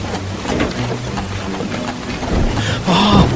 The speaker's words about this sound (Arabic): أي رياح تهب في هذا الفصل من السنة؟ انطلقت الرياح من أعلتها كأن شياطين الجحيم تطاردها، وبدأت العاصفة تزداد عنفا، ثم هوت العاصفة على الجنة.